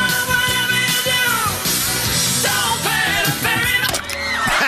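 Many voices on a duck boat scream and yell at once in a loud, continuous, chaotic wall of sound, with high shrill cries rising and falling over a churning, noisy background.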